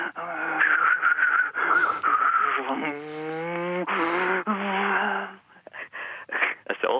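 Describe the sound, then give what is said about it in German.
A voice mimics a racing car whistling around every corner, revving and whining with rising and falling pitch in a few bursts, then sputtering off into short choppy sounds, fairly loud. “Und wenn ich jetzt mit ihm so Wettrennen mache, ein Auto, ein Asphaltraser drin sitzt und um alle Ecken rumpfeift.”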